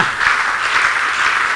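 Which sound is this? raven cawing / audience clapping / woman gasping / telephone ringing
audience clapping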